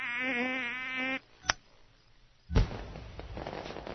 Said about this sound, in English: Ooh, what's going on, Verrier? A fireworks display.